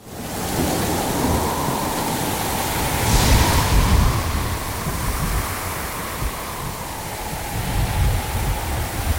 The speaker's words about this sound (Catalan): Aquesta tempesta es trencarà la nau! Per Alà ens portarà directament als esculls!